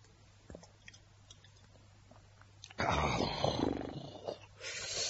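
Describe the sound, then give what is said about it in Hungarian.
Someone takes a sip of pálinka from a bottle: after a quiet moment, a burst of wet gulping and swallowing lasts a second or two, then a softer breathy sound follows. “Egy korty, és utána férfiasan megállom.”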